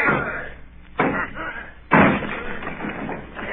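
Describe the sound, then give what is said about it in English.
The door of a surrounded house is forced open with two heavy, booming blows about a second apart, then a crash and splintering rattle as it gives way. Voices shout. “Will you answer me? Down with the door, then!”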